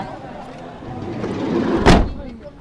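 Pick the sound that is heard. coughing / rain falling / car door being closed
car door being closed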